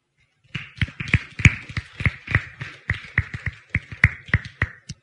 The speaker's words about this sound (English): We are clapping to the Lord that he has been so faithful to teach us from this book.